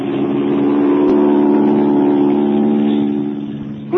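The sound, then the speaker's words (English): A propeller plane engine roars in a loud, steady drone with a buzzing, harmonic tone as the plane starts its takeoff, holding level for several seconds before easing slightly near the end. No voices are heard. “They're starting their takeoff. You're taxiing right toward him.”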